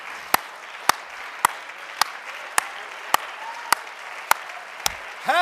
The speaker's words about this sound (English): Let's all stand and clap hands for victory, shall we? Hallelujah, hallelujah, hallelujah.